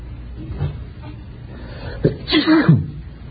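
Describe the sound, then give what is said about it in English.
A single sharp human sneeze bursts out after a brief inhaled build-up, loud against a quiet background with faint room noise. “Sneezes are hard to stop. I'm glad that one's behind me.”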